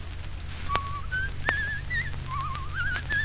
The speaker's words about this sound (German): Was ist denn das? Die lustige Witwe, Herr Regierungsrat. Sie dürfen aber hier nicht die lustige Witwe pfeifen.